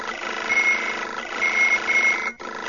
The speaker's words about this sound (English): When all four data pads on the table began to chirp warning signals, Leia silenced her alarm.